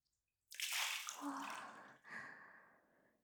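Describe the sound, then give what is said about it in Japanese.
Hot water pours in a steady, rushing splash for about three seconds, briefly breaking off partway before continuing and tapering slightly, as a little hot water is added to improve the lather. No one speaks. “今一つ泡立ちが。少しお湯を足します。”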